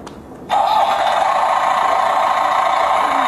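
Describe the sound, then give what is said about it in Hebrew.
A tractor engine sound, played when a tractor on a page is pressed, starts abruptly after a brief quiet moment, then runs in a steady, loud, continuous drone with a rough mechanical hum. No one speaks over it. “איזה קול נחמד יש לטרקטור.”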